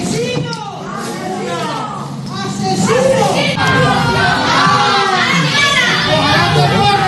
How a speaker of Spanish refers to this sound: Por lo demás, esta noche ha tenido lugar la reconstrucción de los hechos con el autor confeso de la muerte de Manuela Chavero en el año 2016. Los vecinos le han recibido con estos gritos.